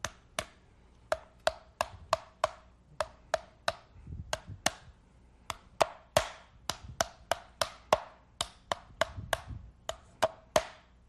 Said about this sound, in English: Did you see what I brought today? It's called a pounding board. Have you ever seen such a thing? It's a board of wooden pegs that you just pound with a hammer like this.